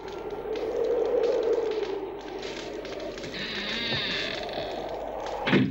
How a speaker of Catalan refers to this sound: Totes dues claven la mirada en la porta, que s'obre.